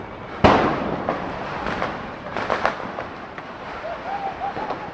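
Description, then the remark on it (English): Fireworks and firecrackers go off during Diwali celebrations: one loud bang, then scattered cracks and pops over a steady noisy outdoor background, with a faint whistling tone near the end. “The holiday marks the victory of good over evil, of light over darkness, and maybe that's why it's always accompanied by sweets and fireworks.”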